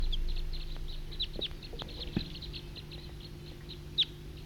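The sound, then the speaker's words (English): A flock of wild birds chirps steadily, with many short, high-pitched calls overlapping in a busy chatter, one sharp louder call near the end, over a low background hum. “It's a recording flock of wild birds.”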